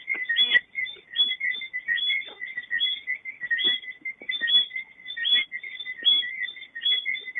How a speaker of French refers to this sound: Autour de moi, le chant des petites grenouilles arboricoles. Vous pouvez les entendre.